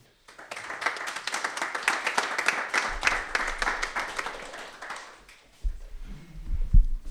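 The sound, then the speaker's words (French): An audience breaks into steady applause, dense overlapping claps that hold for about five seconds, then die away into scattered handclaps and low rumbling noise. “et juste la remarque, pour ça je crois qu'on n'a pas tout de suite applaudi parce que c'est la première fois que j'ai pas dû sortir le carton rouge, c'est quand même waouh.”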